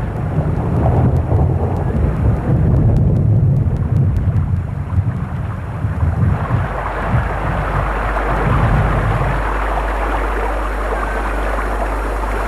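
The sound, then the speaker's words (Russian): A heavy storm roars, with deep rumbling thunder and a dense, steady hiss of pouring rain building into a loud, continuous downpour. No voices are heard. “И словно в ответ на его безрадостные слова начался потоп. Мы не слышали даже собственных слов.”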